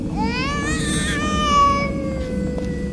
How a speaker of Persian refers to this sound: پس چرا آرام نشد؟ شاید این گریه و نارامی دلیل دیگری دارد.